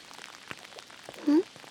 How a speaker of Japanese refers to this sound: 全然止まないね。むしろ少し雨足強くなってる気がする。